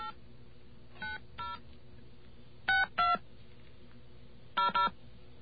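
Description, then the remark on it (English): Touch-tone keypad beeps as a New York Telephone number is dialed: six short dual-pitched tones in uneven groups, some in quick pairs, over a faint steady hum with no talking. “Let's get our friend the dial tone here. There we are. Let's give this a call.”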